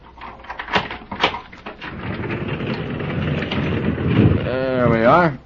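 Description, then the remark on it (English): A couple of sharp metallic clanks as the lock is taken off a stable door, followed by a long scraping rumble as the heavy wooden door drags open, ending in a rising, wavering creak. “I have to get the lock off first.”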